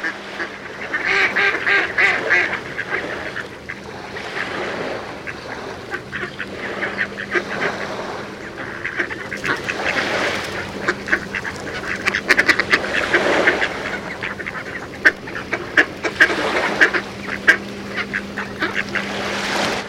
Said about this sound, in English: In Connecticut, one flock found a substitute. Twice a year, they take over the bird feeding station in author Mark Seth Linder's front yard.